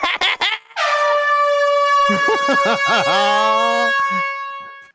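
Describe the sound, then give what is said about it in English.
A loud horn blares in one long, steady honk lasting about three seconds, bright and buzzy with a fixed pitch, while a voice briefly talks underneath; short clattery sounds come just before it. “I just want to edit the sound effect so it honks right away.”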